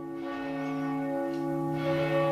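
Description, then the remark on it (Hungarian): The large bell of the church in Salgótarján rings with a deep, sustained tone, its rich overtones humming steadily and swelling again near the end, heard clearly with no voices present. “Megszólalt a salgótarjáni templom nagy harangja.”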